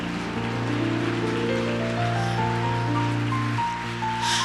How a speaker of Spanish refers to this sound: Aleluya, ponte de pie, por favor. Sí, dale un aplauso más fuerte al Señor.